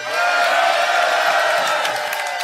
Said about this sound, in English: Now, we have a nice crowd here, and they all miss you. Can you everybody say hi